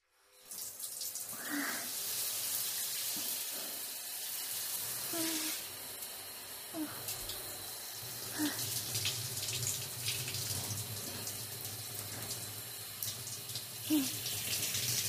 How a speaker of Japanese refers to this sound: はい、シャンプーおしまいです。シャワーで流しますから目をつむっててくださいね。